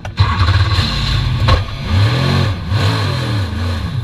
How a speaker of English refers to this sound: This is Visit Florida racing driver Ryan Dial in his Corvette during a training run at last year's Rolex 24 at Daytona.